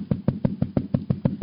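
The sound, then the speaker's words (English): Rapid, steady knocking on the door of a house by a man who has lost his key, about nine evenly spaced raps in a second and a half, fairly loud, with no voices. “When he came to his house, he had lost his key and he came to knock on the door.”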